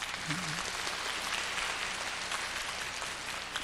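Steady audience applause fills the whole stretch, a dense, even wash of many hands clapping at a fairly constant loudness, with a faint hint of a voice early on.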